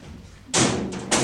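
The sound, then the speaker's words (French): A door shuts with a sudden loud thud, followed by a brief rattling clatter and a second knock as it settles. No one speaks. “La porte, s'il vous plaît.”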